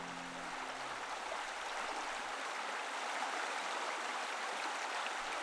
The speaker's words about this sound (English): As you draw near, you hear the cascade of water flowing on the rocks. There's a bridge you must cross to get to the waterfall.